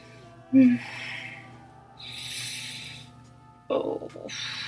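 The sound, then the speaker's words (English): Heavy, breathy exhalations rise and fall during sexual activity, broken by a couple of short voiced gasps, one near the start and another sharper one toward the end. “Oh, I'm breathing heavy, gasping as you grind into me and we lower ourselves onto the floor.”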